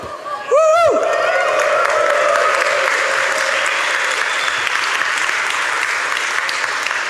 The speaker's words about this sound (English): Oh, it's nice to have a cheer, but I get a bit emotional because this is the closing session.